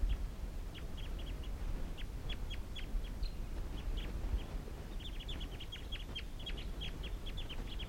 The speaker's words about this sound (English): So recording, there are actually five birds here, I think. Three males and two females. And these are the wild birds calling.